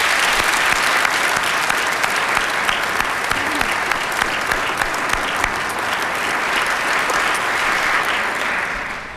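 A crowd applauds steadily for about nine seconds for trivia teams through the years, a dense, sustained clatter of many hands clapping, holding level before tapering slightly at the end.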